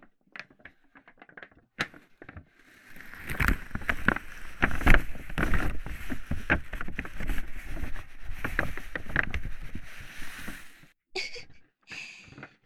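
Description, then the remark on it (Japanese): A paper bag used in a research sound demonstration crinkles and rustles, starting with a few scattered crackles, then building into several seconds of busy, dense crumpling before tapering off into a few last faint rustles. No one speaks. “この紙袋の音、研究を知ってもらうのにちょうどよくてね。”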